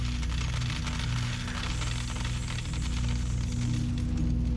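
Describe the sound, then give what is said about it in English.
After a win on a big fruit machine, a steady cascade of coins pours out of it, a dense, rapid metallic clatter that keeps going without pause over a low electrical hum, loud. “She won! And here come the coins.”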